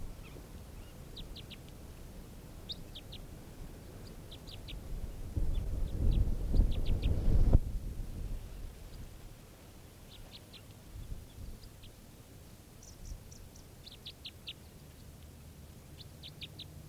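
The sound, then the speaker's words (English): Short, repeated very low-pitched type 3 variant bird calls, arriving in quick clusters of two to four notes throughout, with a brief swell of low rumbling noise partway through. “Very low pitch type 3 variant. Recording, the bird's calling now.”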